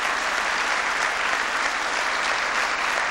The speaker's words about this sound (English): We had a terrific contribution from our own Secretary of Agriculture, Tom Vilsack, and who deserves a big round of applause.